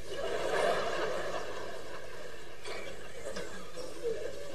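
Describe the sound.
A person imitates a rooster crowing, the rooster that belonged to Zhenka Popov: a drawn-out, warbling call held for several seconds, fairly loud, with no other voices speaking.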